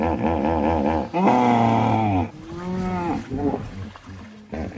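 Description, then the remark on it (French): Hippopotamus grunts recorded in Mozambique by the team of bioacoustics researcher Nicolas Mathevon of the University of Saint-Étienne: a loud series of deep, droning, wavering calls, several overlapping and rising and falling in pitch, ending in shorter, fainter grunts, with no talking. “Grognement des hippopotames, enregistré au Mozambique par l'équipe du chercheur en bioacoustique Nicolas Madvon de l'Université de Saint-Étienne.”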